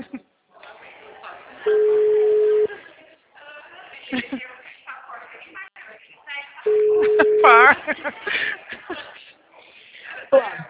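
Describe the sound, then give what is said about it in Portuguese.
A telephone ringback tone on an outgoing call, following an earlier recorded message in English, sounds twice, each a steady one-second low hum about five seconds apart, loud over the line, while people talk in between. “Primeiro deu uma mensagem mim lá em inglês, agora começou a chamar.”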